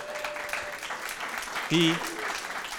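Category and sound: crowd, audience clapping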